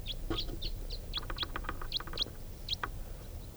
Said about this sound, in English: And going from one grove to another, not stopping. Sounds like there are quite a few crossbills over there.